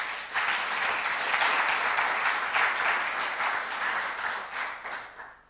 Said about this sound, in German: Und ich denke, wir dürfen ruhig mal einmal klatschen, weil sie hat bis dahin wirklich Studium Digitale mitgetragen.